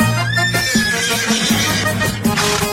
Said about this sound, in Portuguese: Ela lá na estrebaria relinchando, me chamando que tá louca pra sair.